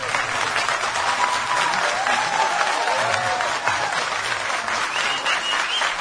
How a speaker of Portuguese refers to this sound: Nós estamos ao vivo aqui na Rádio Gaúcha, no Show dos Esportes. Quero ouvir um aplauso pro Pedro Ernesto, por favor.